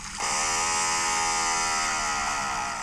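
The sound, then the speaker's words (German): A crabeater seal's underwater call from the Southern Ocean: one loud, steady buzzing drone with a rich, reedy harmonic tone, lasting over two seconds and sagging slightly in pitch near the end. “Das ist ein Krabbenfresser-Robber.”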